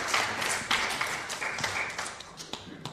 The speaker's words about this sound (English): Two gardens. Thank you very much. Round of applause for these two.